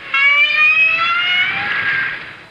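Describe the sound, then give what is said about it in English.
A single sustained whale call, loud and tonal with a buzzy stack of overtones, holding a steady pitch that glides slightly upward before fading out after about two and a half seconds. “Because each sound was made by a whale.”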